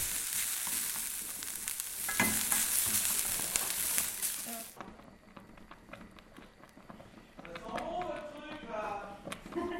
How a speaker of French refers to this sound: L'odeur du beurre là, dommage que les unes ça n'enregistre pas les odeurs. Hein. 3 minutes à la poêle, dans du beurre bien fait.